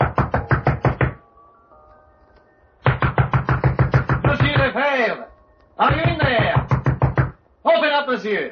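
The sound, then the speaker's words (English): Loud, rapid knocking on a locked door comes in three insistent bursts, each a quick run of raps, with a raised voice calling out between and after the later bursts. “Well, the door was locked.”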